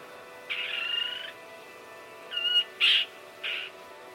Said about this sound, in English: Since that visit, Craig has spent a lot of time researching the kingfisher and has written a series of poems about the bird.